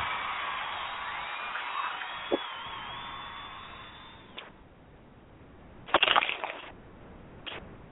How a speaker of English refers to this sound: So without further ado, it is with great enthusiasm I bring before you the host of the show. Please join me in a warm round of applause,